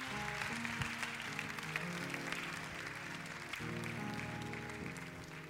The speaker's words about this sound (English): Can you give the Lord a hand clap of praise, please?